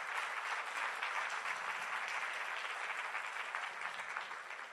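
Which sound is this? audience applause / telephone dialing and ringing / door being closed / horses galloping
audience applause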